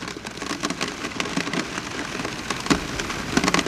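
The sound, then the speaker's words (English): Steady, cold rain falls outdoors on a November day, a dense patter of drops striking a surface with scattered louder splashes, continuous for the whole stretch, with no voices. “The first time I visited Patrick Matheny, it was a cold, rainy day last November.”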